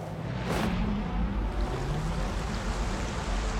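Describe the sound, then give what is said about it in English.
Steady, loud rush of sea water and rolling waves, with a quick splash near the start, as a pod of dolphins swims and dives at the surface of the sea. No voices. “his body soars on its own, flying over a pod of dolphins swimming in the sea below.”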